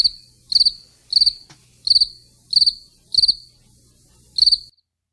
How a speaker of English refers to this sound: Not enough background noise on those crickets.